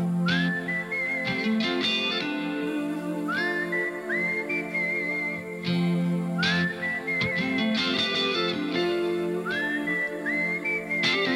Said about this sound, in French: Mais pour le moment, il est temps de siffler un peu.